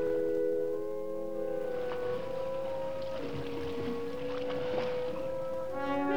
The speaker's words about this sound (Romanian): O corabie plutește ușor pe marea liniștită.